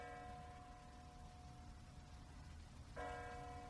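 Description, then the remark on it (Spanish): Bells ring with long, humming tones that slowly fade, then a fresh strike sounds near the end. Everything sits quietly under a steady rain-like hiss, with no voices. “Cuando la campaña se acerca, se oyen unas campanas.”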